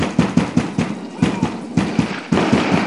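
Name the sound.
knocking on a door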